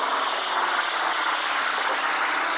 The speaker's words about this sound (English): That's one of the Marine fighter planes just passed overhead. He's on his way back to his base to get a new supply of rockets. I notice he has rocket brackets on, but they are empty.